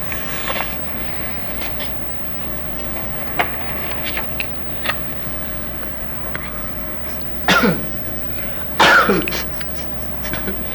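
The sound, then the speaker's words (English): A couple of sharp coughs break out near the end, preceded by a few faint throat-clearing sounds over a steady low background hum, with no talking. “Sometimes you say you have a little cough.”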